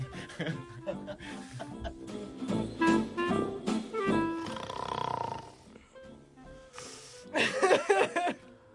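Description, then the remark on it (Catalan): A person imitates snoring with their voice, producing rough, rasping, throaty snorts in irregular bursts, some growling and harsh, ending in a louder wheezy flourish. “Nen, ronca més.”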